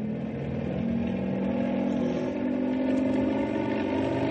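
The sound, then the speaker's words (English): A steady, loud helicopter engine drone with strong low harmonic tones that rise slightly in pitch as the motor revs up for better stability, continuous throughout with a buzzing, vibrating texture and no voices. “I'm going to have to rev it up for better stability.”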